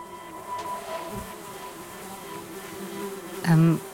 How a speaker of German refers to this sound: Fliegenschwärme, die über Gefangene herfallen und sie bei lebendigem Leibe langsam auffressen? Mhm, ganz genau.